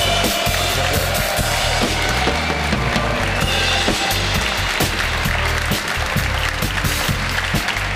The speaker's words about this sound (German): So, Stefan, und wenn du schon denkst, das war der größte Applaus. Nein, es gibt jetzt noch mehr.